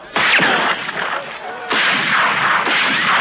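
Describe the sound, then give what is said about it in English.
Rifle gunfire: three loud, sharp cracks spaced about a second apart, each trailing off into a dense, hissing wash of noise that carries through the gaps between shots. “Now step quick now and keep firing.”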